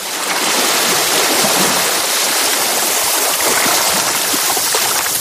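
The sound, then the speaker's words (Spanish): Seawater splashes and sloshes steadily against a small cayuco boat at sea on a crossing toward the Canary Islands, a loud, continuous rushing wash with no pauses and no voices. “se subió un cayuco y se echaron al mar”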